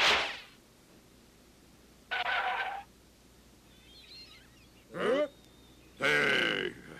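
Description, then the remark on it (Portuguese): A whale following a boat: its airy spout hisses first, then three loud, groaning calls with bending, sweeping pitch follow, each separated by a quiet pause, with no talking. “Uma baleia! Mas que sorte!”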